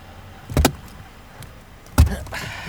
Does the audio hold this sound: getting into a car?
yes